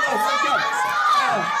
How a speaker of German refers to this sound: Und los, Laola-Welle mit Jubel. Und ruft Fußballsachen, ruft mal Foul. Und spielt weiter und spielt weiter. Und das Publikum ist laut dabei.